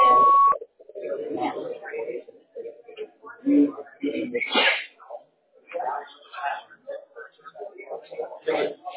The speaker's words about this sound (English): To leave a voice message, press 1, or wait for the beep. Please record your message after the beep. When finished, hang up or press pound for more options.